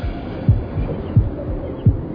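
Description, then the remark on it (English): A person's heartbeat thumps at a steady, brisk pace, beating too fast: three deep, muffled beats, prominent over a low background hum, with no one speaking. “Heartbeat. Man, that's what it's supposed to do. No, my shit beat too fast.”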